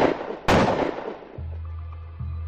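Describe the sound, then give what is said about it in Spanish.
Two loud, sharp gunshots ring out about half a second apart, each trailing off in an echoing decay, then a low, steady droning tone takes over. “Ellos también murieron en sendos disparos en la cabeza.”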